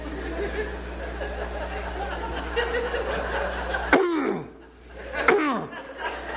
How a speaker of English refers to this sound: How do you know I'm uncomfortable? I'll clear my throat.